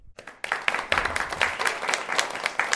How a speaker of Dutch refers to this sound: Ik vind het erg fijn dat wij een solist in ons midden hebben die het eerste thema van de Blauwe Donau voor u zal spelen. Geeft u hem alvast een hartelijk applaus.